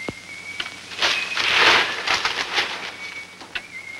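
Crisp newspaper rustles and crinkles in a short burst as a detective straightens it, swelling to a noisy crackle before settling into lighter shuffles, with a faint steady whistle-like tone in the background and no talking.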